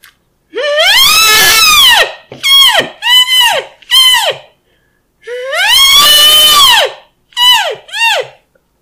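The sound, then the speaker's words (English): A person imitates an elk bugle with an elk call that had gone dry: two long, loud, high squealing calls that rise and fall, each followed by a few short, choppy chirps, with silence between and no talking. “There, that's my bad elk calling for the day.”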